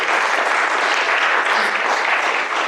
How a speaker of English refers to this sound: Well, we are delighted to welcome you into membership, so if I give you your membership cards, and we will pray for you. There we go. Thank you. And can we show our welcome with a round of applause again?